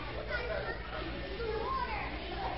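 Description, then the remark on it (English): A noisy lunchroom full of overlapping children's voices, a steady, loud din of chatter and calls with no clear individual words and no distinct bangs standing out. “And all of a sudden, he hears banging and clapping and noise and metal and wood and a lot of loud voices clapping and banging.”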